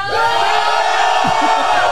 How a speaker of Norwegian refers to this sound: Vi tar en avstemning. KK, ta brøl så høyt dere kan hvis han skal holde haiku.